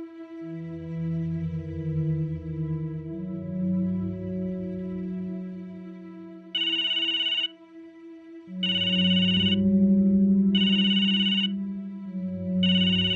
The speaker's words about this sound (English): I woke with a jolt, scrambling around for my phone to turn off the alarm. It took me a second to realize that my phone was ringing. It wasn't my morning alarm.